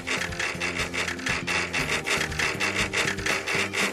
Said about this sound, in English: Now, I file down the edges of one of the boomerang's arms to give it that airplane wing shape that makes it fly.